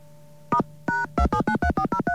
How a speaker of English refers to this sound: They give you your phone number in touch tone.